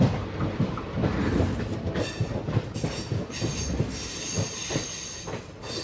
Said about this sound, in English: takes a trip on the Indian Railway to discover the complex relationship the country has to love, life, movies, and more. Because it's all there, on the crowded, magical trains of one of the most mind-blowing countries on Earth.